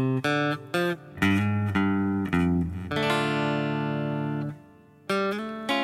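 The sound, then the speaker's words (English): A very clean electric guitar with no distortion plays a song's opening lick: a few quick plucked notes (5th string 3rd fret, 4th string open, 4th string 3rd fret), a slide on the 6th string from the 3rd to 4th fret, a held note ringing for over a second before fading, and a final pair of notes. “We have this opening lick.”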